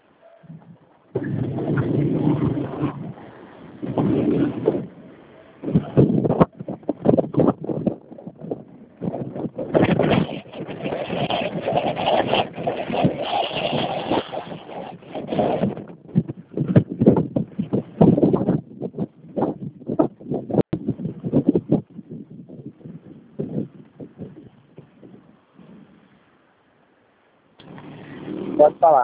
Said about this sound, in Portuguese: Olha aqui, peraí que eu vou parar a moto, peraí.